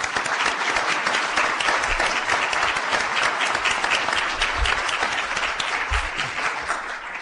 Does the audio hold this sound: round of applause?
yes